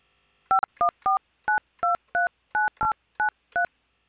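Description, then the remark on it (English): A quick series of ten phone keypad DTMF tones, each a short dual-pitched beep, keying in a 10-digit phone number for an automated phone service, entered at a steady, slightly uneven pace with brief gaps between them, with no talking. “Next, please say or key in your 10-digit phone number.”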